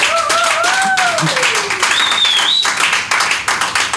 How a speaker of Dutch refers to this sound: Dames en heren, mag ik een applaus voor